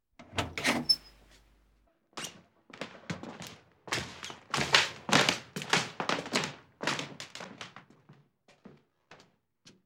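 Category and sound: household object, heavy door being opened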